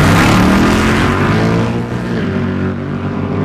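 Loud, roaring engines of two street race cars rev hard and surge forward from the starting line in the middle of a road, their pitch climbing as they accelerate away together, a sustained blast of engine noise with no voices.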